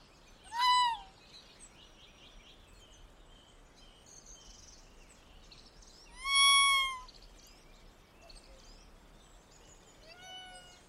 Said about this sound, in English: And so you might be able to tell a little bit of what the Tanuki is just by the sound they make. But the Tanuki is a wild canid species native to Japan that is related to wolves, foxes, and domestic dogs.